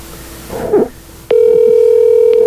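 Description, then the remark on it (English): A brief muffled rustle, then a telephone tone cuts in and holds steady and loud, like a line dialing out and ringing, with a faint click near the end, as a phone call is placed to Coach Terry. “Let's see if we can get Coach Terry on the phone.”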